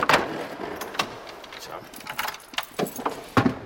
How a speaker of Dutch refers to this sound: Een luikje openmaken. Even kijken, dan moet hij ergens een sleutelgat zitten. Ja, hier zit een sleutelgat.